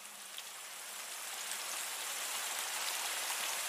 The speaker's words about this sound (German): Das achte und letzte Naturgeräusch, das ich dir vorstellen möchte und was in dieser Liste auf keinen Fall fehlen darf, ist der Regen.